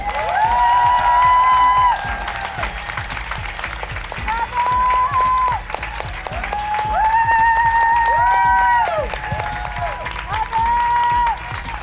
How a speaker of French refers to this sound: Aussi douée que solide, aussi douce que drôle, s'il vous plaît, un tonnerre d'applaudissements